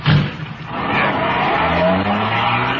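A car pulls away hard, its tires squealing loudly over a steady engine roar that rises in pitch as it accelerates, continuous for a few seconds with no talking.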